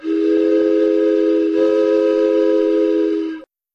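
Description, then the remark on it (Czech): A sustained, steady train-whistle tone held for over three seconds with a brief dip midway, produced by a human voice imitating a train, loud, then cutting off abruptly. “A teď vlak.”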